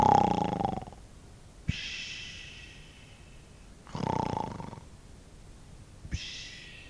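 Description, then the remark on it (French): A man lying on grass among ruins snores loudly, each rasping, rumbling inhale followed by a long airy exhale, repeating in a slow, steady rhythm with no talking. “Il s'allongea sur les herbes qui foisonnaient dans les décombres et ne tarda pas à ronfler.”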